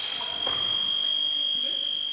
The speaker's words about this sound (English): When Vincenti touches Spear with her épée, she earns a point and a buzzer sounds.